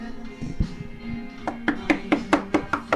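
Someone knocks on a door in a quick, steady run of about eight sharp raps, preceded by a few softer, duller thuds. No voices are heard.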